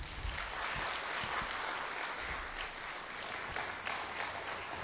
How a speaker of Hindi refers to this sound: आप सभी तालियों से स्वागत कीजिए।